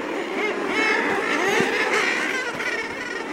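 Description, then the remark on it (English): A dense colony chorus of common murre calls, harsh growling and moaning voices overlapping continuously and loudly throughout, with no pauses and no speech. “Yet among the nearly 10,000 bird species worldwide, only a few dozen can fly underwater. The common murre is among them.”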